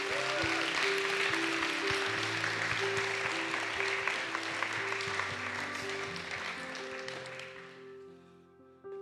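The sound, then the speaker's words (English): A crowd applauds Jesus in a dense, steady wash of clapping for about eight seconds while sustained keyboard chords play underneath, then the clapping tapers off at the end. “Can we give Jesus a great big round of applause?”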